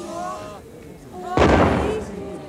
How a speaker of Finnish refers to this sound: puolella tusinalla vanhoja rannalle asetettuja tykkejä ammuttiin tervehdykseksi.